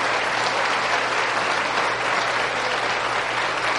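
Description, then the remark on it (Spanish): A Spanish-speaking crowd at a sermon applauds steadily for the married couples standing up among them, dense clapping from many hands filling the space at a constant, fairly loud level with no voices rising above it. “Démosle un aplauso. ¡Los matrimonios!”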